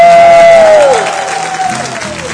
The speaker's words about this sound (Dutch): Oké, en juich eens voor de Heer als je Jezus lief hebt. Juich eens voor de Heer als je van hem houdt. Laat eens merken. Oké, applaus voor jezelf. Applaus voor onze Heer.